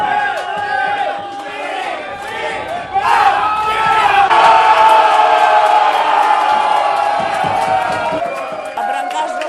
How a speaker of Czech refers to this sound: Hráčutkání sklidil potlesk i v pivnici u hvězd v Teplicích.